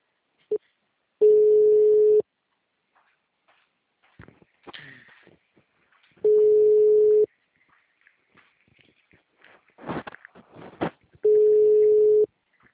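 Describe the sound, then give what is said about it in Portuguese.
A telephone ringing tone sounds three times: steady, mid-pitched one-second beeps repeating about every five seconds, with faint clicks and rustling in the gaps between them. “Ih, seu telefone tava tocando.”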